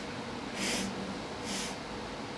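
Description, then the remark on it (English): A voice imitates a talking parrot that copied its owner's sniffing: two quick, breathy sniffs about a second apart, moderately loud, with no talking around them. “And she could never understand why, when you went to see the parrot, it kept on going, making that noise. Why was the reason? Because my great aunt was always sniffing.”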